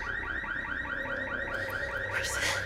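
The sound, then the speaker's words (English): A 4x4's car alarm, set off when the driver's door is opened, blares in a fast, repeating electronic warble, its pitch sweeping up and down steadily throughout, with a brief burst of noise near the end. “In the office, Pierce hears the alarm and shuts the laptop.”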